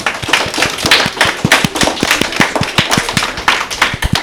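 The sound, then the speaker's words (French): A short burst of applause for a correct answer in a sound quiz: rapid, crisp hand claps from a small group, steady and fairly loud throughout, with no voices. “On peut les applaudir.”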